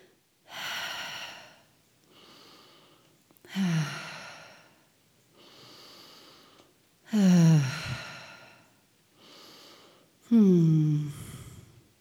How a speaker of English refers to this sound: She was smooth and even in her pace, and I heard her breathing, clear as a bell, rhythmic and pulsing.